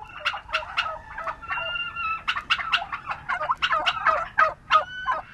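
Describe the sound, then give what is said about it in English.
A flock of turkeys gobbling outdoors in a roomy pasture on a farm in Sparks, Maryland, with repeated rapid, warbling calls overlapping one another. No one is talking. “Turkeys can wander around a roomy pasture at Springfield Farm in Sparks, Maryland.”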